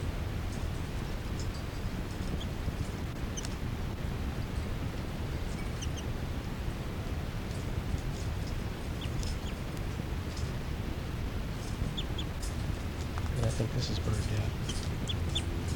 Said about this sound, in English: Three there, and a begging call by the new juvenile female. 5-9 chitter, kind of loud.